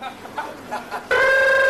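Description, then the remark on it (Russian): A telephone ringing: a loud, steady electronic tone cuts in abruptly after a few faint, soft sounds and holds unbroken to the end. “Это ж телефон.”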